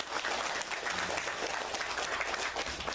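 Steady audience applause at a ceremony fills the whole moment, a dense wash of many hands clapping at once, fairly loud, with no talking over it.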